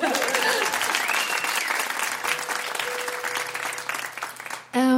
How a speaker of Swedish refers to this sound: Och Musikplats Stockholm firar också 20 år. Så applåd till dig!